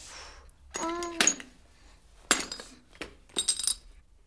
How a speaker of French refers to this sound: Marie-Laure apporte les bouteilles, les verres et les petits pains au raisin. Attention à ce que tu fais! Marie-Laure laisse tout tomber.